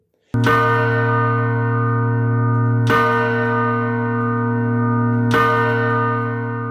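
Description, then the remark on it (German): A monastery church bell strikes three o'clock with three slow, evenly spaced strokes, each a loud clang that rings on in a long humming resonance into the next. “Schlagen einer Glocke, das ist der Stundenschlag.”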